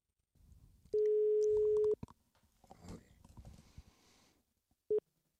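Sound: telephone ringing tone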